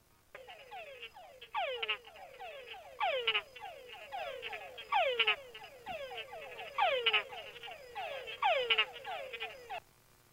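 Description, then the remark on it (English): A male túngara frog, a tropical species, calls repeatedly and steadily, each call a descending whine often followed by short chuck notes, about one call per second, clear with no talking. “Okay, so unfortunately, the tundra frog is a rather unattractive tropical species.”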